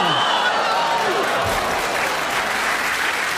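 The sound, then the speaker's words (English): Sustained applause from a studio audience, a dense steady patter of many hands clapping at an even loudness for a few seconds, with faint voices mixed in underneath. “Well, that applause was for what you said,”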